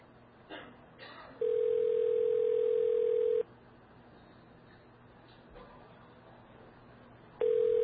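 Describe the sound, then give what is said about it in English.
A steady, loud telephone dial tone holds for about two seconds after a few faint clicks as a call is placed to a 917 number, then drops off and returns at the very end over a low background hum. “Okay, this person has a 917 number.”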